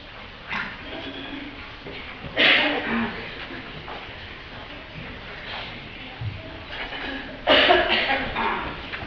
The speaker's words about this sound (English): You're just worried because I'm coughing. I'm not concerned because I'm on antibiotics.